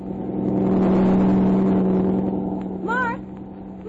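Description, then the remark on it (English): A heavy truck with headlights on roars along a road without slowing down, going too fast, a deep droning rumble that swells loudly and then eases off as it passes, with a brief wavering squeal near the end. “Oh, golly, he's frozen by the headlights, and the truck isn't even slowing down.”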